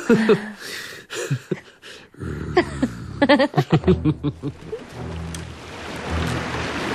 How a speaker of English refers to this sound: Very little to be said for the sea, in my opinion. It's taking me home. And yet, it's taking me from home.